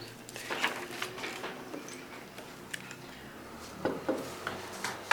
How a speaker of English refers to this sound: Did you hear the door open? Oh, yeah. Here she is.